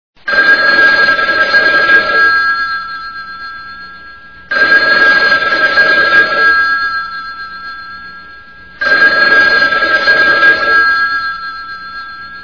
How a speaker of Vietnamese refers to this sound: Điện thoại reo khi trời còn chưa sáng, có lẽ là 2, 4 hay 6 tiếng gì đó. Tôi hộc tốc chạy xuống thang gác để nghe điện thoại đặt tận trong nhà bếp, đầu vẫn còn chính choáng trong cơn mê ngủ.